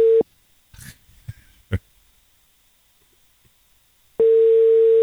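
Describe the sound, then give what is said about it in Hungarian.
An outgoing call's ringing tone: a loud, steady mid-pitched beep cuts off at the start and returns near the end after a long pause filled with a few soft thumps and rustles. “Csak dob rá a Viber üzenetet, hogy hívjuk.”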